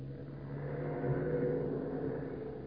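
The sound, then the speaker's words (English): A heavy army truck engine rumbles and whirs steadily, rising slightly as the truck backs up slowly to a schooner tied up at the dock in the town of Zamboanga in Mindanao, a continuous low drone with no voices. “An army truck is backing up to the schooner Spindrift, tied up at the dock at the town of Zamboanga in Mindanao.”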